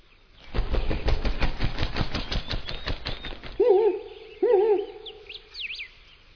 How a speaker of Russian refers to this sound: Такими неповторимыми зигзагами сова летает только тогда, когда она что-либо забывает.